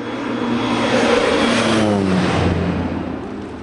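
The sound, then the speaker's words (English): A low-flying bright yellow propeller airplane filled with rice seed roars past over flooded Missouri fields in the evening under murky clouds, dropping rice kernels, its engine drone swelling loud and steady with a slight pitch shift as it passes overhead. “In the evening, as murky clouds threaten rain, a bright yellow airplane filled with rice seed flies daringly low over the Missouri fields.”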